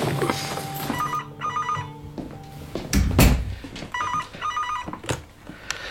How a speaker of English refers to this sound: you wait for the phone call, you eat, sleep and breathe it. Your life is on hold until that phone rings.